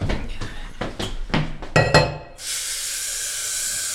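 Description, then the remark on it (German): Several sharp clinks of dishes and mugs knocking together in quick, irregular succession as the washing-up is done, followed by a steady hiss of running water that continues to the end. “Ich kümmere mich um den Abwasch.”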